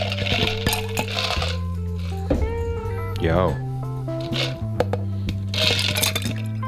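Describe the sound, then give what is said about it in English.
A clattering rush of ice cubes tumbling from a jug, poured from a height into three glasses, sharp clinks and cracks piling up over a few seconds, fairly loud, with a man talking over steady music underneath. “I can just pour it straight in. A roughly $8 jug.”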